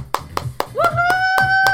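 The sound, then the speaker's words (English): Parents applaud their kids with steady, rhythmic clapping, about seven sharp claps at an even beat, with a sustained high whistle-like cheer joining midway and low murmuring voices underneath. “Once again, parents, let's give our kids a big round of applause.”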